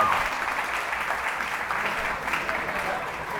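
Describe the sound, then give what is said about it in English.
Steady applause from a crowd, dense overlapping hand claps forming a continuous bright wash of sound that holds at an even level for several seconds. “Well, can I get a hand clap for that? Okay, we got it.”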